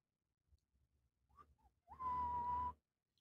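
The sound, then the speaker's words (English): Someone whistles a short, bright snatch of The Price Is Right game show tune: a couple of quick, soft chirping notes, then one loud, steady note held for nearly a second. It is clear, with no talking. “Who's Whistling Price is Right? Oh, that's me.”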